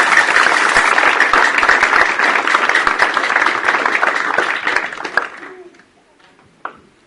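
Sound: applause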